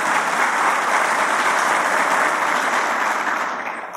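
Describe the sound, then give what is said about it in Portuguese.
A steady round of applause from many people at an official event, for the team working with DNIT and InfraSA, dense and loud throughout, tapering off slightly in the final moments. No voices stand out over the clapping. “Muito obrigado, queria solicitar uma salva de palmas também para essa equipe brava, guerreira, fazendo tudo isso.”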